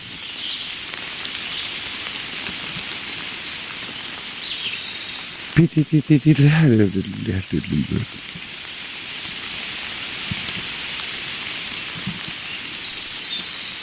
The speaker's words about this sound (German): Also, Baum des Jahreswald, da klingt Wasser so auf den mit Blättern bedeckten Waldboden, da diese Blätter sich schlecht zersetzen.